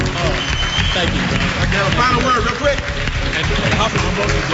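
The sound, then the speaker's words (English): An audience applauds two gentlemen being honored for their hard work and dedication. A dense wash of clapping stays loud and even throughout, with scattered cheers and voices mixed into the crowd noise. “Please, ladies and gentlemen, give these two gentlemen a warm applause for all their hard work and dedication.”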